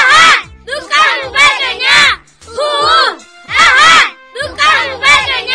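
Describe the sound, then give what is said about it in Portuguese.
A crowd of children, the supporters of the Escola Mateus do Carmo teams, cheers and shouts in loud, high-pitched bursts, about five waves of overlapping voices separated by brief pauses. “Cadê a torcida?”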